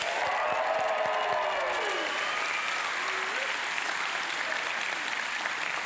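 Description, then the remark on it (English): A crowd breaks into loud, sustained applause for the lunch team, a dense wash of clapping with scattered cheers and whoops rising above it, steady from start to finish. “So on three, give them a big round of applause.”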